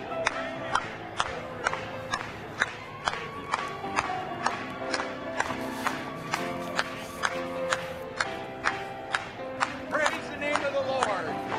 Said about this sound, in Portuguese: Batam palmas mais uma vez.